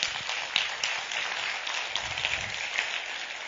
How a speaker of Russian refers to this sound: Слава Иисусу! Я думаю, что надо дать Богу аплодисменты на этом месте.